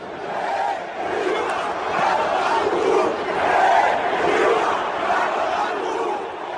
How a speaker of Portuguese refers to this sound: Uma grande parcela do estádio começou a gritar aí, Dilma vai tomar no cu.